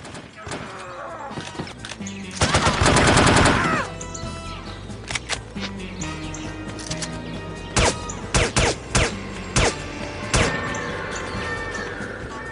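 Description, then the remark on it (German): Gunfire from a shooter video game fills a busy mix, with a loud sustained burst early on and then sharp, separate shots. Enemies scream and yell, a steady alarm-like tone hangs underneath, and an alarm is set off toward the end. “Also das klingt, na, wie ein Shooter so klingt, mit viel Schießen und mit schreienden Gegnern und so weiter.”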